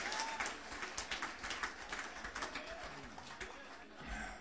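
An audience claps steadily for several seconds, a dense wash of many hands with scattered sharper claps poking through, and a few voices calling out underneath.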